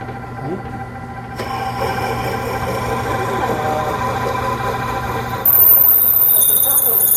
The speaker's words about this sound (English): Okay, so it's drilling a hole right through the center of that thing. It's a little stinky. You want a piece of it? Never seen acrylic do that before.